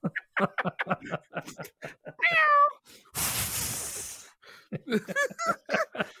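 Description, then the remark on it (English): Amid lively talk, a person improvising as a cat with a flamethrower in Doha gives a short, wavering imitation of a cat's meow, followed by a loud, second-long rushing hiss before the chatter resumes. “I really became the cat then, see?”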